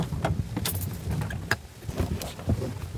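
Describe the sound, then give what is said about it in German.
Someone climbs out of their car in the middle of a supercell storm amid floodwater: sharp clicks and clunks of the door and handle, rustling movement and a jingle of keys, over a steady low rumble outside. “Doch dazu muss ich mein Auto verlassen.”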